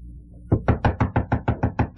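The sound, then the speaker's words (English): A quick series of about nine firm knocks on a wooden front door, evenly spaced, following a brief quiet moment. “it's your front door.”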